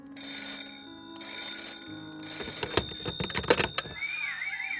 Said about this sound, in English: Shortly after midnight, the phone in George's first floor office rang and woke up Jenny.